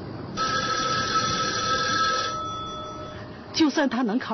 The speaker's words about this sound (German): Noch bis Anfang der 90er Jahre gab es etwa in Shanghai pro Straßenblock nur ein Telefon, so wie in dieser TV-Serie dargestellt. Wenn es klingelte, wurde die gewünschte Person herbeigerufen.